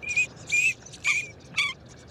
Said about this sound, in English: These are green-winged teal, North America's smallest dabbling duck. Just over a foot long and weighing less than a pound.